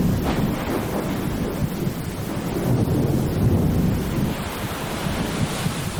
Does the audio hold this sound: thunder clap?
yes